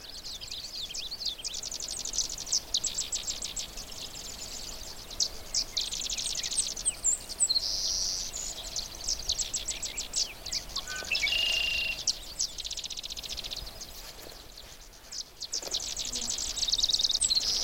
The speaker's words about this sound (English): Sedge wrens are small wrens, and they like wetlands.